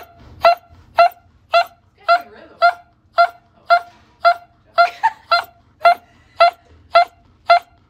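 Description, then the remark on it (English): A dog waking up from surgery lets out short whining yelps in a steady, almost metronomic rhythm, about thirteen evenly spaced cries, fairly loud, with faint rustling between them. “This dog is totally fine and was waking up from surgery when he started dropping a pretty sick beat.”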